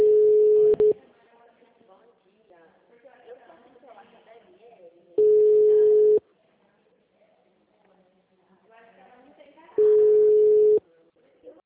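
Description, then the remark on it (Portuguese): A steady mid-pitched telephone tone sounds three times after a dropped call, each loud beep lasting about a second and spaced several seconds apart, while a person talks quietly in the gaps. “tava falando com você no telefone, a ligação caiu.”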